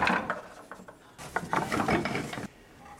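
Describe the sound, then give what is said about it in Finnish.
Hard objects clack and rub together in quick, irregular bursts of knocks and scrapes as differently treated wooden blocks are handled on the desk of an Aalto University wood science professor, with no one speaking. “joka työpöytä on täynnä eri tavoin käsiteltyä puupalikoita.”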